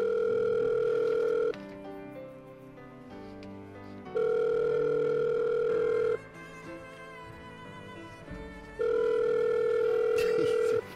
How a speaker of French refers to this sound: Téléphone.